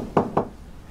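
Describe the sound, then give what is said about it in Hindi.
Two firm knocks on a wooden door, about a fifth of a second apart, moderately loud, followed by quiet; a father knocking on his daughter's door, asking her to open it. “दरवाजा खोलो, दरवाजा खोलो, मैं तुम्हारा बाबा हूं।”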